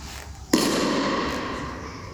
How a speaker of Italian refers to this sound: Questo nostro capodanno, nel quale noi non facciamo i botti, no? Voi lo sapete ricordate perché si fanno i botti del capodanno.